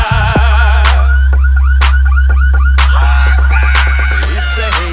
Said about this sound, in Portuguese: Os gravão pesado tão tremendo os carandá, e os alarmes das caminhonetes já começaram a disparar.